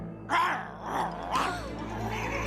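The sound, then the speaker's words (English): Serafina the cat yowls in three drawn-out, wavering cries as she leaps off a chair and scampers under a line of ornate side tables, with a steady low hum underneath; no distinct scampering footsteps stand out. “Serafina the cat leaps off the chair and Midas's back, then scampers under a line of ornate side tables, Midas in hot pursuit, his neck adorned with a purple bow.”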